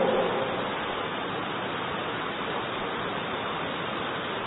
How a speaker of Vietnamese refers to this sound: Hôm nay mát trời, tiếng mưa lộp độp vào mái tôn như thế này, như là tiếng nhạc nó rung, nó ru ngủ cho chúng ta.